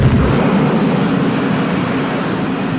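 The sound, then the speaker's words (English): A heavy stone temple entrance door grinds open, shedding dust, with a loud, continuous low rumble and gritty scraping that holds steady for a few seconds, with no voices. “The flames around her grow higher, as the temple entrance seems to respond to her and open, the stone grinding and shedding dust, dust many thousands of years old, as the door gives way to the interior.”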